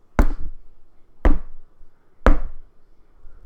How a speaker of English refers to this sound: Imagine their surprise, though, when there was a loud rapping at the door.